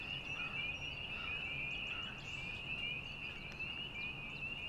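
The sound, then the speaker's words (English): A dense, continuous chorus of mating frogs croaking in a swamp, a steady high-pitched trilling drone that never lets up, with scattered faint chirps over a low ambient rumble. No one speaks. “Same as the frogs who mate in the swamp on your left.”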